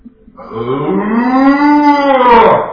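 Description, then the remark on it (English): A single long, loud cow moo rising and swelling for about two seconds, rich with harmonics, heard on its own with no talking, from a cow on a farm in Nova Scotia. “And there's something I noticed about the cow. He wouldn't just do that.”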